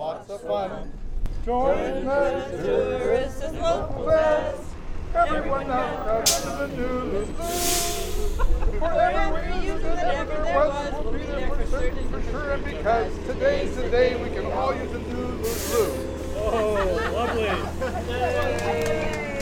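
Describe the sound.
A bus rumbles low and steady as it pulls up in Ketchikan, with two sharp bursts of air-brake hiss, while a crowd of voices sings a song led by a local resident and chatters throughout.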